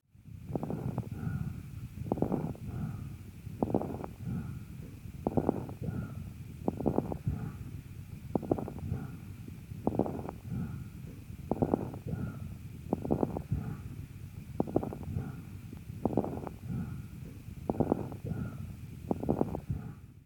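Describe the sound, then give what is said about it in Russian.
Lung crepitation heard through a stethoscope after coughing, against bronchial breathing: bursts of fine crackling recur at a steady rhythm, roughly every one and a half seconds, over a continuous low, rushing breath sound, with no talking. “Крепитация, в отличие от хрипов, не изменяется после покашливания.”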